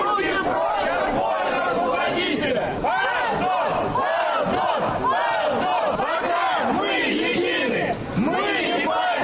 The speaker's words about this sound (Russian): На противоположной стороне посольства в Малом Кисловском переулке у главного входа толпятся сторонники движения «Молодая гвардия» и местные. Звучащих из колонок музыкантов периодически перекрикивают митингующие.